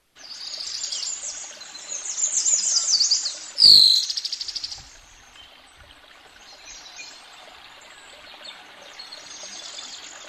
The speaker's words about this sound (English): Yes, this is birdsong and water, and I think it's 12 seconds.